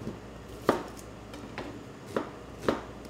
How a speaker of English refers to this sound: Okay, so we want a large onion. Just wanna dice this up.